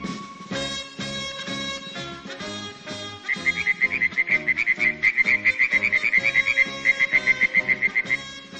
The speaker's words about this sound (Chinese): 一天早晨，金色的阳光把阿瓦山上的雾气驱散了，一只小青蛙欢乐地唱着歌， 呱呱呱呱呱呱呱。